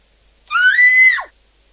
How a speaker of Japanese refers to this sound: しばらくすると、女性の悲鳴が聞こえた。